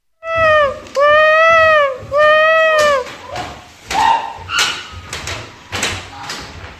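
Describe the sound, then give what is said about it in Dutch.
A child's voice, playing Hati the elephant from The Jungle Book, imitates an elephant trumpeting with three loud, sustained, high-pitched blasts in quick succession, followed by scattered clattering and rustling noises. “Ik ben Hati de Olifant.”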